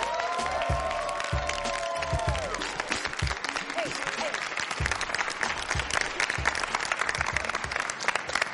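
A crowd applauds loudly and steadily, with shouts and whoops of cheering rising over the dense clapping throughout.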